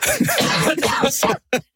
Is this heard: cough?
yes